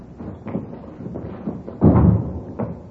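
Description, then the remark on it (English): A door is handled indoors: a few soft thumps and clicks, then a louder, fuller thud as it swings shut, followed by a light knock, with no speech. “Here, I'll get the door.”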